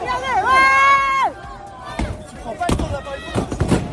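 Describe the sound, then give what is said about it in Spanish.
Riot police in Brussels charging a crowd protesting health restrictions, using water cannons and tear gas: a long, wavering cry rings out, then gives way to chaotic crowd noise punctuated by several sharp, loud bangs and crashes. “La policía, como escuchamos, se vio obligada a cargar y a utilizar cañones de agua y gases lacrimógenos para controlar a la multitud.”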